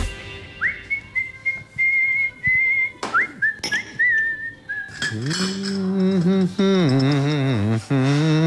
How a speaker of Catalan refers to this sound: sempre xiula, sempre canta.